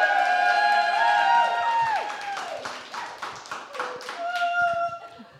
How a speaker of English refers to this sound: we are so glad that not only are we here tonight, but we have a live studio audience. So let's hear it, live studio audience.